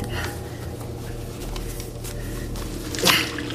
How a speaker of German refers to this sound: Die Harmony-Lösung plätscherte zu Boden.